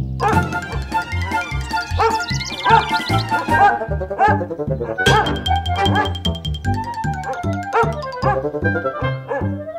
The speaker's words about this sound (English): Off we go! Eyes wide open. Scratching. Stretching. Bouncing. Barking.